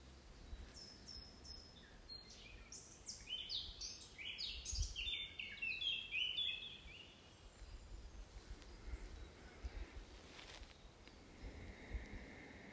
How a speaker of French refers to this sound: Et vous pouvez même faire appel à une petite pluie d'harmonisation accompagnée par tous ces oiseaux là qui sont au sommet de ces branches. Dans la forêt où je me trouve aujourd'hui